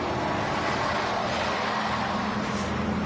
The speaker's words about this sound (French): Départ des bus, midi.